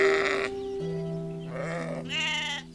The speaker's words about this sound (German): Auf einer Weide tummeln sich Schafe